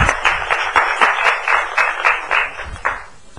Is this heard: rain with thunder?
no